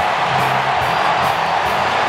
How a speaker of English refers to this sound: Hit in the air. Deep left center. Back goes Robert. Cubs win the ball game. Mike Tauchman with a game-winning home run. Listen to this crowd.